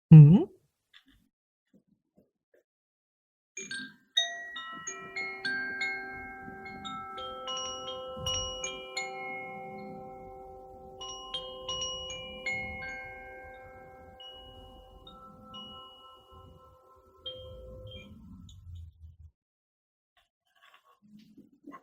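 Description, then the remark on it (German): Koshi-brand wind chimes with bamboo tubes, the water and earth element sets, are played for about fourteen seconds, with overlapping bright, bell-like tones ringing and sustaining in a shimmering cluster before fading, alongside soft handling rustles. “Und die sind den Elementen zugeordnet von den Herstellern von Koshi. Das ist eine Marke. Und das sind Röhre, Bambus, aus Bambus hergestellt.”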